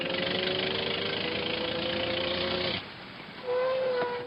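A car engine runs steadily with a broad, rumbling hum as the car arrives, cuts off sharply, then a brief fainter whine and a renewed engine note follow, loud with no talking.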